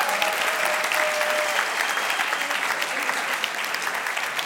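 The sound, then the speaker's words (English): A crowd applauds the third place winners of a competition, a dense, even wash of clapping that holds at a constant loudness throughout, with no voices rising above it. “One more round of applause for our third place winners.”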